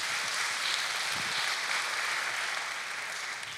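A church audience claps steadily to welcome a couple who are about to share, a dense, hissy wash of many hands that stays loud and even throughout before easing off slightly at the very end. No one speaks over it.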